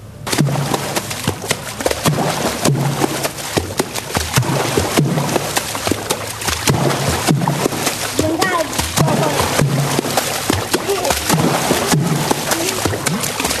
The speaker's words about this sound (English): And the music behind this is made by slapping buckets of water. They're African water drums, but it's just hitting, hands hitting water.